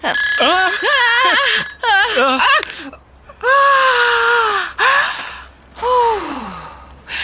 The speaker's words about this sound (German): Das war nur Bens Eieruhr, die er gestellt hat, damit die Nudeln nicht verkochen.